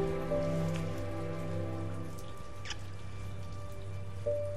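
nature, heavy rain pouring

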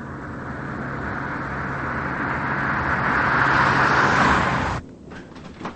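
vehicle, car driving on road

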